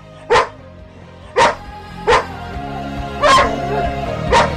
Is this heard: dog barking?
yes